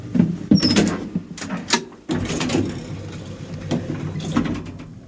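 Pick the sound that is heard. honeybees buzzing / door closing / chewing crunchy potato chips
door closing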